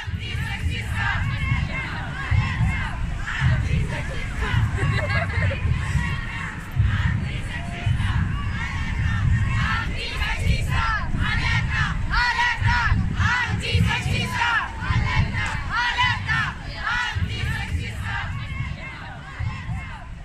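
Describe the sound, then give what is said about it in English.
A dense crowd packed into a large public square roars with overlapping voices, shouts and chants, a loud continuous wall of babble with rhythmic surges of chanting throughout, no single voice standing out. “It's large and it's full of people. In fact, it's packed.”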